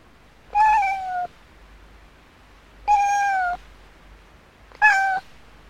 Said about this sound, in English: It's a cat.